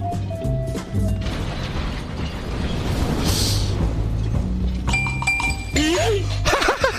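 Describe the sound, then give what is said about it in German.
A heavy elevator mechanism, raised by a lever, grinds and rumbles upward, with clanking, metallic clinks and droning machine tones, a loud burst of noise midway, and steady, dense sound throughout. “Oh nein, ich hab den Aufzug hochgeholt.”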